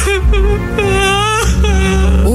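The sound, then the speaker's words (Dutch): A woman cries and sobs loudly, her voice breaking into three drawn-out wavering wails in quick succession, with a steady low rumble underneath, as she stands atop a dike above the icy water of the Westerschelde. “En de matroos hoort gehuil.”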